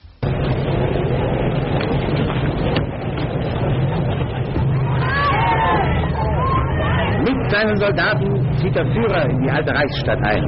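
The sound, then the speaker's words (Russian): A dense crowd of German students and members of Prague's German communities shouting and calling out at once as Hitler enters Prague, in a Deutsche Wochenschau newsreel: a continuous roaring babble with individual raised voices rising above it midway, all with the muffled, narrow sound of an old newsreel recording. “А вот что это за крики гражданских лиц, тут для честности Deutsche Wochenschau объясняет, что это немецкие студенты в Чехословакии и представители немецких общин в Праге.”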